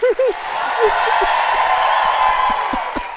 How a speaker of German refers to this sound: Ich lass mal alle für dich klatschen.